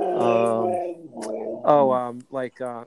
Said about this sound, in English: Yes, I'm having some dog issues. That's what I hear in the background. It sounded like my stomach growling. It's a husky.